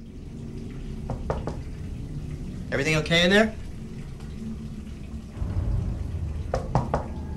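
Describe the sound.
Water runs in a steady, low rushing stream that swells slightly near the end, with a few faint knocks. Partway through, a voice calls out a short question over it.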